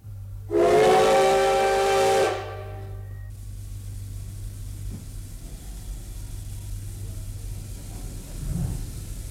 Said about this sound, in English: Next, a steam locomotive starts away from a platform.